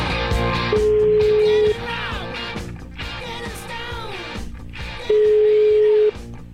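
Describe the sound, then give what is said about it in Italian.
A telephone ringback tone sounds twice as a call is placed to reach a guest, each a steady one-second beep spaced several seconds apart, loud and clear over a continuous music bed. “Vediamo un po' se lo becco col telefono, che abbiamo un ospite.”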